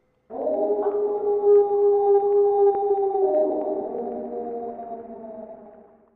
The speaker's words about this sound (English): I have no idea what it was. But that's when I heard the howls.